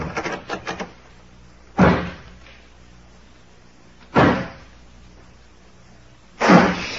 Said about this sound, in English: I'll lock this door on the outside.